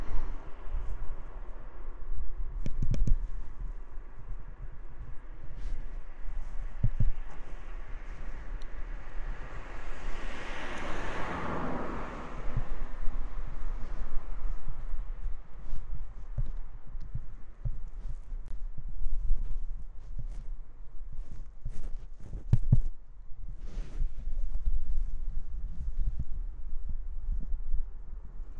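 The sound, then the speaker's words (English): Dry leaves rustle and crackle continuously, with scattered sharp crunchy snaps and a louder swelling whoosh partway through, then settling back to a steady rustle. No one speaks. “Well, I hope you enjoyed my leaf rustling noises.”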